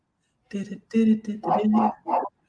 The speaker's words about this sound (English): I'm mad that I hear the dog, right?